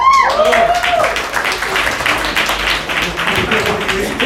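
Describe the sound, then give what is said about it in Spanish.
An audience breaks into steady, dense applause, many hands clapping in a continuous crackling wash for the whole stretch, with a brief voiced cheer rising at the start and murmuring voices mixed in. “Qué bonito aplauso, cuánto entusiasmo y sus palmadas.”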